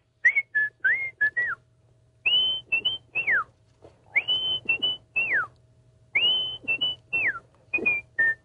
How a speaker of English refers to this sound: That's the Andy Griffith tune. That's really me whistling, too.